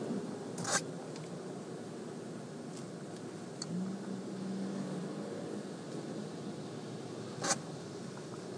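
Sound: car driving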